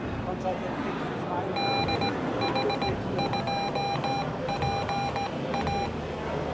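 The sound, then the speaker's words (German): Morse code tones: a steady, bright beep keyed on and off by hand in quick dots and dashes for several seconds, sending an amateur radio callsign, over a busy, noisy background murmur. “Ich kann zum Beispiel mein Rufzeichen geben.”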